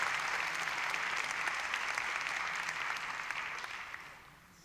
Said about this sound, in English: How about a round of applause for our stage hands here this evening? And the sound crew, the monitor engineers, and our store engineers also.